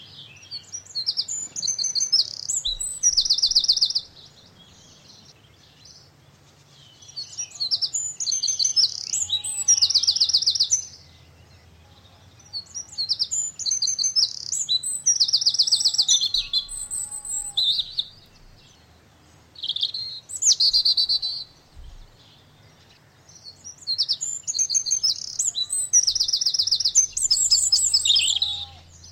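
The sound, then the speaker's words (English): Birdsong in repeated bursts of high, rapid chirping and trilling phrases, each lasting a few seconds with short pauses between, over a faint low hum. No voices. “So we could either have 30 seconds of silence or birdsong.”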